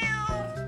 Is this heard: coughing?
no